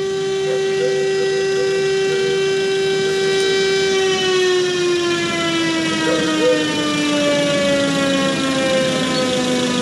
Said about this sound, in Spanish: Esto está ocurriendo en la avenida Ramón Picarte en Valdivia. Ya está en el exterior del servicio médico legal la carroza fúnebre. Escuchamos la sirena.